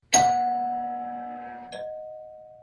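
A doorbell rung at seven o'clock by the arriving new governess chimes a two-note ding-dong, the second tone a little lower than the first, each note ringing out and fading slowly with no voices over it.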